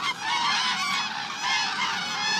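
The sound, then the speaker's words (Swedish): A dense, continuous chorus of honking geese at Lake Hornborgasjön: many overlapping nasal calls at a steady loud level with no pauses, forming a busy wall of bird noise. “Vi kan alltså lyssna på ljudet igen. Det här är Hornborgasjön.”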